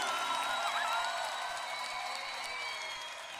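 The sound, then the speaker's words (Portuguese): Steady applause from a crowd applauding Jesus during a worship song, a dense wash of clapping at moderate volume that holds evenly for a few seconds before easing slightly. “E aplauda Jesus. O dono da tua vida.”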